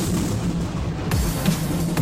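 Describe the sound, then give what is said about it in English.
A loud, steady roll of thunder fills the whole two seconds, a deep rumble with a few sharper cracks breaking through near the end. No voices. “And as the electricity travels along the channel, the high temperature causes air to expand explosively, producing a shockwave that we hear as thunder.”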